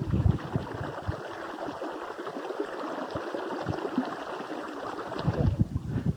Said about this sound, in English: That is Cold Spring, a babbling brook, and very, very cold.